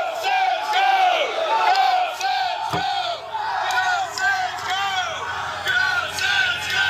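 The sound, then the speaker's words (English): A passing crowd cheers and whoops continuously, many voices overlapping in rising and falling shouts, loud and sustained throughout, with one brief sharp thump partway through. “Just a crowd going by.”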